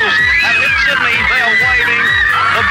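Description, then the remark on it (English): A crowd screams and yells during the Petrov affair, many high-pitched voices overlapping into a loud, continuous wall of shrieks with no pause, while deeper thuds pulse underneath. “People are screaming all around me.”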